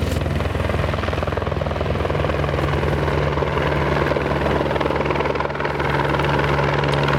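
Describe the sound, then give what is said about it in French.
A firefighting helicopter carrying a Bambi bucket holding 700 to 800 litres of water thrums steadily and loudly throughout, with a constant low engine drone and rapid blade chop filling the whole recording, unbroken, with no voices. “C'est toujours un hélicoptère qui était à disposition et dans les 20-30 minutes, il est toujours quelqu'un, il est disponible.”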